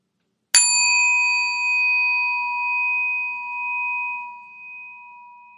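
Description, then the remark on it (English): A single meditation bell is struck once, its clear tone ringing out alone with steady overtones and slowly fading over several seconds of long, shimmering decay. “Let your eyes close fully or partially, and taking 3 deep breaths, focus your attention on the sound of the bell till you can't hear it any longer.”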